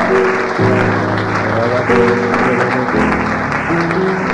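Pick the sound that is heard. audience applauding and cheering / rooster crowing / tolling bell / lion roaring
audience applauding and cheering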